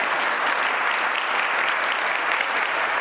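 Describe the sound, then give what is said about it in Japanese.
Sustained applause from a large audience after a performance by the calligraphy club of Fukui Yao High School, a dense, even wash of clapping that holds steady at full volume throughout, with no voices standing out. “大きな拍手をお願いいたします。”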